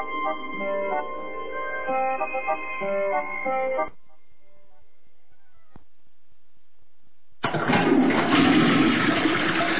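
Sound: toilet flushing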